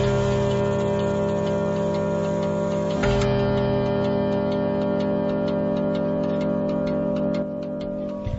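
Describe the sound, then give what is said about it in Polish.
A clock ticks steadily in an even, regular rhythm, clear over a constant low droning hum, with no one speaking. “Miarowe tykanie zegara niektórych usypia, a mnie po raz kolejny skłania do refleksji, że jest to sygnał upływającego czasu”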